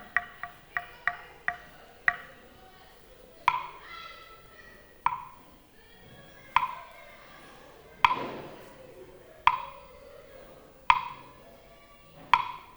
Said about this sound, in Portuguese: relógio.